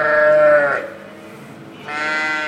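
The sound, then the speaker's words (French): Dairy ewes on a farm in Solières-Sardière bleat loudly as they grow agitated at snack time, one long wavering bleat followed by a short lull and then another bleat starting up, with no talking. “Là, elles vont commencer à s'énerver, ben, c'est l'heure du casse-croûte.”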